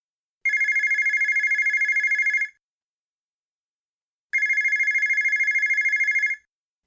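A telephone rings twice with an incoming call for a grandmother, each ring a sustained, rapidly trilling electronic bell lasting about two seconds, with a pause between. Clear, with no voices.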